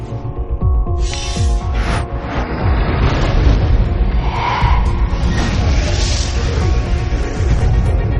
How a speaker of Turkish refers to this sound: Büyük patlama.